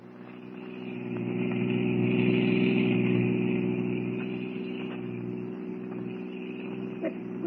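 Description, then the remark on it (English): A car engine, of a private car just taken out of the garage, runs steadily with a low, droning hum, swelling briefly as if revving gently before settling back to an even idle, with no one speaking. “I still don't understand why you insisted on getting our car out of the garage instead of using a taxi.”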